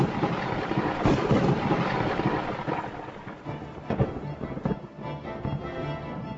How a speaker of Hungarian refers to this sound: Hatalmas villámlás, tengeri vihar, a hajó elpusztul.